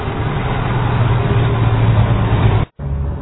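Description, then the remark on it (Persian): Heavy engines of small and large loaders and trucks rumble steadily with a low droning hum as they clear flood mud from the streets of Pol-e Dokhtar, broken by a brief cut of near silence before the machinery noise resumes. “از این لودرهای کوچک گرفته تا این لودرهای عریض و طویل و کامیون‌هایی که استان‌های مختلف راهی پل دختر شدند، همه روزانه بارها خیابان‌های پل دختر را سیل کردند تا کمتر از 2 هفته این 1,500,000 متر مکعب گلولای را از شهر جمع کنند.”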